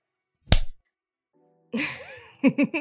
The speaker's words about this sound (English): I'll slap you again in the face.